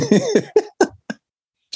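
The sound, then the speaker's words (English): A fit of harsh coughing: five quick hacking coughs in a row, weakening as they go, then a short pause before one more cough. No one speaks. “We can hear you bumped up and coughing.”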